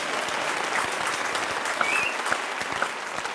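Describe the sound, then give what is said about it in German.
A crowd applauds with steady, dense clapping that holds at an even loudness throughout, with a few brief whistles or cheers rising above it. “Ja, hier Applaus, verdient.”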